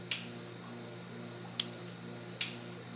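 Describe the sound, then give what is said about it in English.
Three sharp, crisp pops from a mantis shrimp striking in a laboratory aquarium, spaced irregularly over a steady low hum, with no voices. “There are lots of crackles and pops, especially if people just fed them snails.”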